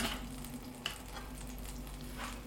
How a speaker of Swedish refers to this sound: Nu känns det rätt så varmt här i kallan. Så fräser det lite grann.